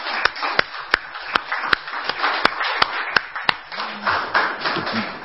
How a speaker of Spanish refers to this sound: Aplauso.